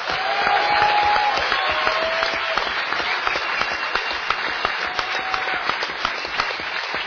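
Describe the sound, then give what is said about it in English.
A crowd applauds steadily for several seconds for the New York radio station WBAI, a dense wash of many hands clapping that fades slightly toward the end, with a few brief whistles rising above it. “And let's hear it for WBAI, you know?”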